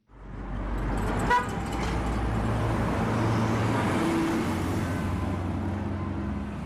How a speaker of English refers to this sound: Home sweet home reads the sticker on the minibus taxi's back windscreen as it speeds through a red traffic light in the Johannesburg city centre.